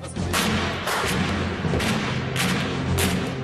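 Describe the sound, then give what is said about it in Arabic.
Heavy artillery cannon fire booms repeatedly over a dense, rumbling battlefield din in Syria in late 2011, several loud blasts landing in quick, irregular succession with no voices present. “وحين دنا عام 2011 من الأفول كان صوت المدفع أقوى الأصوات وأعلاها.”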